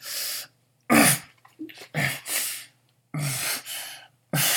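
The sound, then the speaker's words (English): A string of soft, breathy whimpers, about seven short bursts with brief pauses between them, fairly quiet, with no talking. “Those little whimpers are so cute.”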